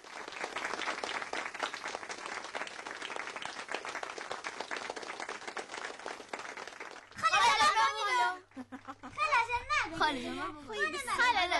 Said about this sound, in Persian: صدای چی بود؟ صدای دست زدن. آفرین. صدای چک چک کردن بود. درست است.